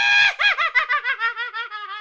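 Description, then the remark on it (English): A Roblox in-game sound effect made by the Bright Eyes Witch's Brew Hat accessory: a shrill, witch-like cackle that opens with a high screech, then breaks into rapid bouncing laugh pulses that slowly drop in pitch over about two seconds, loud and alone. “Those items are the Bright Eyes Witch's Brew Hat, and the sound that it makes is”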